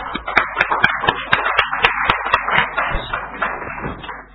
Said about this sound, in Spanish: Así que, un aplauso.